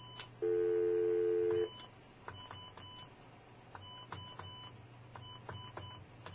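A telephone number being dialed from a studio phone, starting with 9 and then 1: a loud steady tone lasts about a second, then a string of short touch-tone beeps at uneven intervals over a low background hum.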